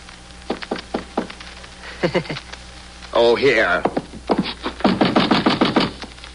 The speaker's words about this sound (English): And knock on the concierge's door.